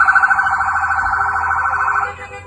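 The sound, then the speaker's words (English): A loud siren on federal vehicles blares with a rapid, steady electronic warble for about two seconds as the vehicles move toward a maroon SUV, then cuts off abruptly, leaving faint background noise. “Then, federal vehicles start moving toward the maroon SUV, with sirens and lights blaring.”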